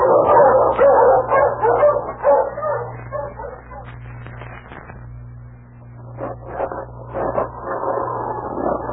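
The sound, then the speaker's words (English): A pack of sled dogs barks and yips excitedly in cold weather, overlapping in a dense, continuous chorus with a few sharp high yelps, loud, over a low steady hum. “Oh, those dreadful dogs. They look like wolves.”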